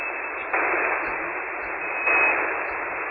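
Steady hiss of radio static as a receiver is tuned up through frequencies, band-limited and continuous, with brief shifts in tone and level as the dial moves, plus faint low rumbles and occasional tiny chirps beneath it.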